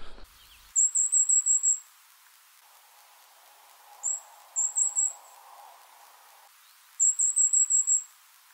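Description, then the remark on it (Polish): Very high, thin goldcrest or firecrest contact calls come in quick bursts of several notes, then a lone call and a short triplet, against a quiet background with no talking. “warto się nauczyć głosu kontaktowego, bo te ptaki są, mimo że są małe, to są dosyć głośne i dobrze je słychać.”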